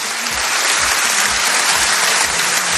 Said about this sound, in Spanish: Ovación cerrada para el míster del Real Madrid y, por supuesto, él tan contento con que a partir de ahora se le pueda llamar doctor.